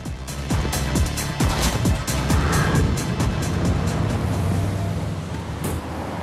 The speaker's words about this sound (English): A car waits for him outside. A window is wound down.